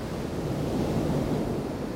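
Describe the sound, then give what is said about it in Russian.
A steady, rushing gust of wind roars for about two seconds, swelling slightly in the middle. It is broad and breathy, with no voices or other sounds. “Порыв ветра.”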